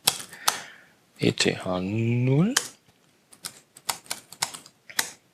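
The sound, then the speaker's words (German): Crisp laptop keyboard clicks in quick irregular bursts as an IP address is typed, pausing while a man briefly speaks, then a run of sharp individual keystrokes resumes on its own. “Und jetzt nehmen wir uns mal ganz frech, weil ich keine Lust habe auf DHCP, gerade eine IP-Adresse, wenn ich dann richtig tippen kann, aus dem Netz.”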